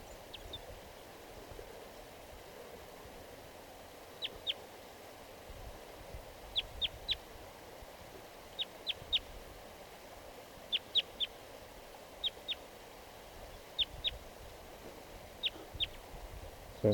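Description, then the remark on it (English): A wild crossbill sings from the tree behind a net in bursts of sharp, high chip notes, mostly in twos and threes, repeating every second or two over a steady low background hiss. “A crossbill just, I just noticed that it's singing here in the tree behind the net.”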